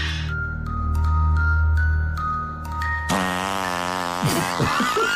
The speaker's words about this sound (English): The fart noise at the end was really my own personal judgment about what I just produced.